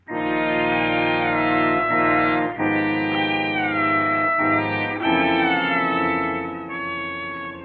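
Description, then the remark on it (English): A cat meows in long, drawn-out wailing cries as it is picked up and carried out of the room and down the stairs, loud, with the pitch sliding and only brief breaks between the yowls; no one speaks. “You watch him pick up the cat and walk out of the room and down the stairs.”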